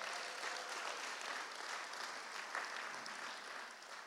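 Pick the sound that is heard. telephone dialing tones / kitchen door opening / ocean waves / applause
applause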